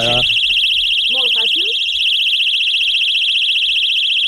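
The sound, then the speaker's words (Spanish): A personal safety alarm, set off by pulling its ring, blares a piercing, continuous high-pitched tone loudly and steadily from start to finish, with a rapid warbling pulse, while a voice briefly speaks underneath near the beginning. “Recordeu que és una alarma de seguretat personal i jo ara estiro l'anella.”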